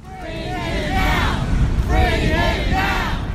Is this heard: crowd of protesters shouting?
yes